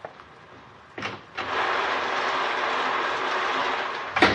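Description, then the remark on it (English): Heavy rain pours down in a dense, steady hiss that swells in after a pair of sharp knocks, holding loud and even to the end, where another brief thump cuts through. “Is the rain letting up a little, or am I just getting used to it?”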